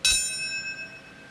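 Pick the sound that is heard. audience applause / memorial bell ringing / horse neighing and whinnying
memorial bell ringing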